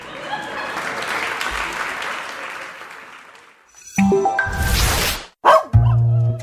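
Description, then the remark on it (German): A few seconds of crowd applause fade out, then a dog lets out a quick run of loud barks and yelps, with a short whining bark at the end. “Ja, ist schon super, wenn man einen Hund hat.”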